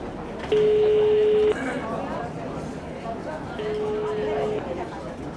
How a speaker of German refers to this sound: Petersen stand wortlos auf, ging vor die Tür und kramte sein Handy aus der Tasche. Hektisch wählte er Possners Nummer.